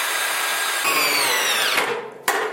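A power drill with a socket whirs steadily for about two seconds as it fastens a tabletop to a metal leg of a workbench, its pitch dropping under load before it stops, followed by a sharp clack.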